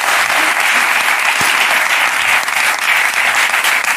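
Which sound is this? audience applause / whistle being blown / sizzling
audience applause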